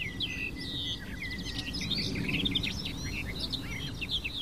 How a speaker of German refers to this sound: melodiöse, plappernde, aber auch volle Gesang der Sperrbargrasmücke. Ich bin gerade ein klein bisschen abgelenkt, weil sie gerade ein bisschen frei sitzt und ich sie gut sehen kann.